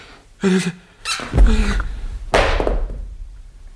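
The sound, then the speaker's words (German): A man faints and his heavy body thuds to the floor after a brief shuffle, followed by another dull, resonant bump that slowly fades. The impacts are fairly loud. “Ich glaube, er ist ohnmächtig geworden. Rums”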